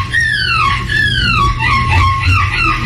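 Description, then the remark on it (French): A nine-year-old child in a seagull costume, competing in a European seagull-imitation contest held in a pub, imitates a seagull, letting out a rapid string of high, falling squawks that overlap one another, loud, over a steady background murmur of a crowd. “concours européen de gens qui imitent la mouette.”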